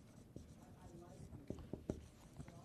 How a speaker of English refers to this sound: So I'm going to write unchanging.